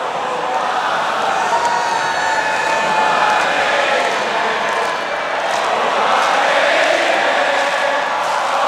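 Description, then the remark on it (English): A huge festival crowd at Glastonbury sings along together, taking over the song in a wave from the back of the field to the front: a dense, steady roar of many voices blending into a sustained chant with faint melodic lines, loud and unbroken throughout. “And that was the moment at Glastonbury when they stopped, and then suddenly the crowd took over, and it came in a wave from the back of the field all the way to the front, and they just kind of soaked it up.”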